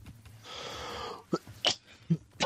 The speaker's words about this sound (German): Ja, Husten im Video ist ein richtig gutes Qualitätsmerkmal.